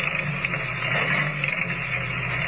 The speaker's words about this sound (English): Driving the station agent's old car along the winding road, Kent and Lois go on to the Barro Ranch. With less than a mile to go, the stillness of the night is broken only by the steady chugging of the ancient motor as it struggles laboriously